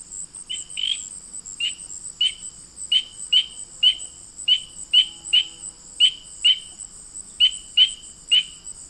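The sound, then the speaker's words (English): A spring peeper frog gives its autumn calls, a series of short, shrill rising peeps, about a dozen in uneven succession, with a steady insect drone humming in the background. No one speaks. “But the truth is, these are the autumn calls of no other than the spring peeper.”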